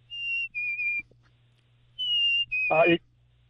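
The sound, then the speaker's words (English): Someone whistles a black-capped chickadee's two-note 'fee-bee' call twice, clear, with each second note slightly lower. A brief vocal sound overlaps the end of the second call. “Okay, that's the chickadee. Okay. Black-capped chickadee.”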